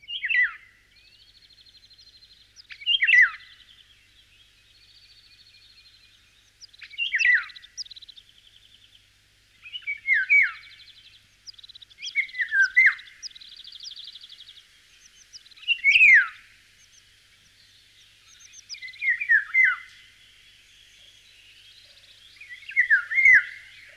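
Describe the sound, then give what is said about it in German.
Golden oriole fluting calls: short, liquid whistled phrases that slide downward, repeated every few seconds, with faint chirping from other birds filling the background. No one speaks. “Pirole halten sich meist in den Baumkronen verborgen. Die Flötenrufe verraten aber die Anwesenheit der Vögel.”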